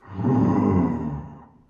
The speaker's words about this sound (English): Or a saber-toothed tiger.